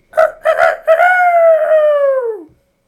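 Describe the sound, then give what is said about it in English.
A person imitates a rooster's crow: three quick, clipped bursts, then one long, drawn-out note that slides downward and stops abruptly. It's loud, with no other sounds. “What did his crow sound like?”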